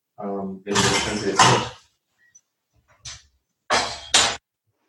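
cocktail shaker being shaken

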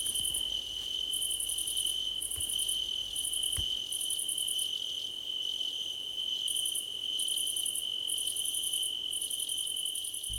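cricket chirping

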